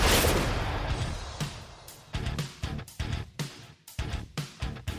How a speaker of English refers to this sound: Fairly certain that's not what it sounds like if you take a chair and you whack someone in the back. I mean, or in the head. It would make a ding.